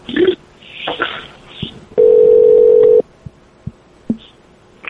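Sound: phone line ringing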